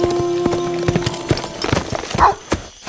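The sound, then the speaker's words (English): Horse hooves clip-clop in a steady, moderately loud rhythm of sharp knocks as a rider leaves a house on horseback, riding back to his place, with a low tonal hum running beneath and a brief higher squeak near the end. “He walked out of the house and mounted up, riding back to his place.”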